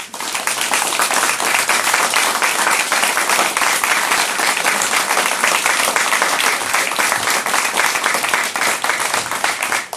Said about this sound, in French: Et si vous permettez, vous allez l'applaudir très fort.